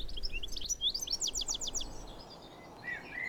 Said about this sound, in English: We have a blackbird singing on our left. Male blackbird with its yellow eye ring and sparkling yellow bill.